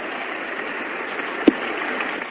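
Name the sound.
audience applauding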